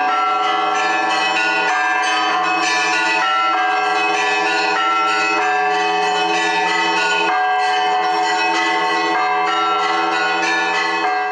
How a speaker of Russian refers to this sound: Храм Благовещения Пресвятой Богородицы обрел свой голос. В минувшее воскресенье колокола для храма осветили и установили на колокольне.